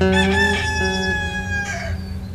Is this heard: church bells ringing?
no